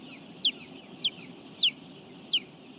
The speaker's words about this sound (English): The sound of more than 20,000 chickens in one of four chicken houses on Phelps's farm